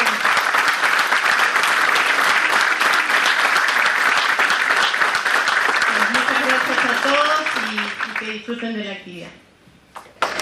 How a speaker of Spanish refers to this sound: Un aplauso.